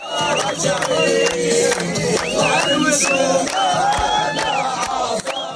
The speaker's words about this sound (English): In Khan Yunis, Palestinians poured into the streets, cheering and dancing after Mr. Trump's declaration.